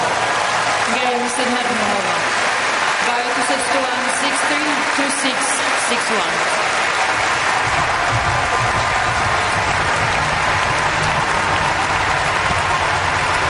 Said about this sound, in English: Almost a 5 minute standing ovation for Venus Williams last night in Flushing Meadows.